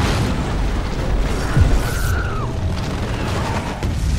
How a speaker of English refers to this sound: Enemy planes are flying overhead. Soldiers are parachuting in. I think one of the planes crashes into a house and there's a big explosion.